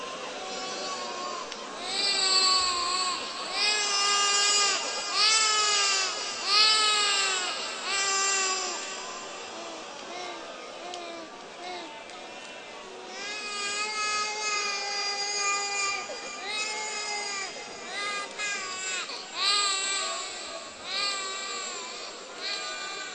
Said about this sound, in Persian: بذار اصلا چند دقیقه همجوری گریه کنم. بذار همجوری